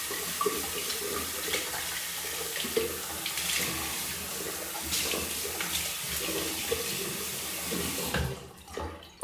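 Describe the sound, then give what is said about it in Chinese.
A tap runs in a steady, hissing stream for about eight seconds while someone brushes their teeth and washes their hands, with small splashes and shifts as hands move under the water, then the flow cuts off near the end. “然后刷牙牙，洗个爪爪。”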